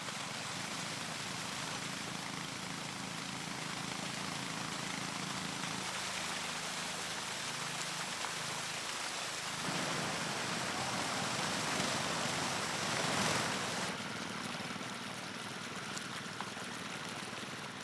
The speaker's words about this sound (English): If it's near to this limit, the road maintenance team swings into action. It pumps water from the lake and pours it onto the road.